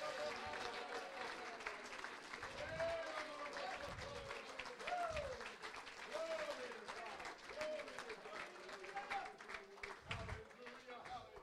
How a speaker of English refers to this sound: Come on, let's all clap our hands to the Lord right now.